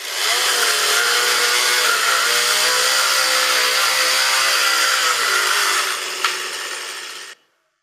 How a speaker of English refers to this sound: Did you hear the sound of chainsaw machine? In my childhood, I never heard this sound. This means deforestation.